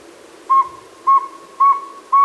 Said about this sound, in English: Here's what a real saw-wet owl sounds like.